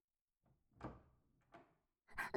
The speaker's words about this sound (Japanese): ちょっと待って、今、玄関のドアが開く音、しなかった？